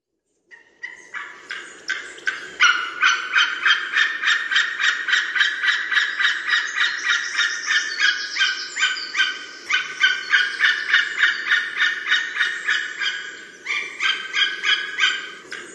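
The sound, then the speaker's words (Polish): A large flock of greylag geese honks continuously, a dense, overlapping chorus of harsh, nasal calls that stays loud for the whole stretch with no voices. “sieje postrach wśród ogromnego stada gęsi gęgawy”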